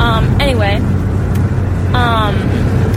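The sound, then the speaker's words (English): A steady, loud roar of road and wind noise fills a moving car's cabin with a window rolled down, with two short bursts of voice rising above the constant rumble. “Sorry, I had to roll the window down. It's really hot in my car.”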